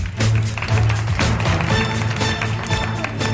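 A crowd claps steadily for a few seconds, applauding a child volunteer who has come up from the audience, a dense and fairly loud patter of many hands with a low hum running underneath and no voices standing out.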